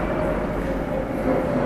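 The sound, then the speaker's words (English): A steady, loud low roar fills the whole moment as an airplane flies overhead, with a faint tonal whine riding on top of the broad rumble. “After the plane flies over.”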